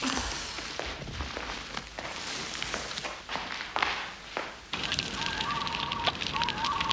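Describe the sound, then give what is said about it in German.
Crackling and popping from a fire being started, with scattered snaps over a steady hiss, along with occasional thumps and shuffling movement. “Jetzt bringen wir erstmal das Feuer in Gang.”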